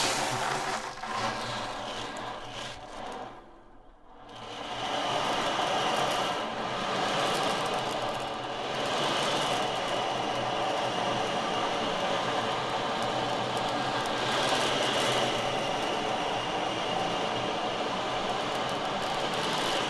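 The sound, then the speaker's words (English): An ocean drum is rolled steadily, its beads producing a continuous hissing wash like surf, swelling and fading slightly, with a brief dip near the start before the rushing resumes. “Well, let's just hear a little of the basic sound just to get an idea of the ocean sound.”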